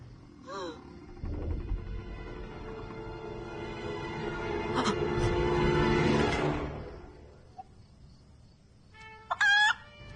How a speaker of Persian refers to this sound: آه یه مرغه.